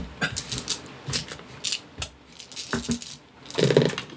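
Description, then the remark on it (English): Dice are rolled for a charm roll in a game. They clatter and rattle across a hard surface in a quick series of sharp clicks, ending in a louder tumbling burst as they settle, with no talking. “Okay, go ahead and roll your charm.”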